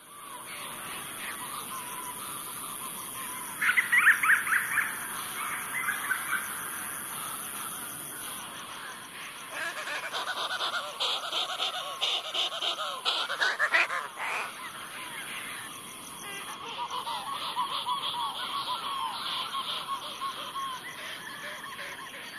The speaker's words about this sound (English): the akeake, or bandrump storm petrel, and the a'o, or Newell shearwater, return to their nesting colonies after dark. Akeake call is often described as the sound of a wet finger rubbing on glass, while a'o is the sound of a braying jackass.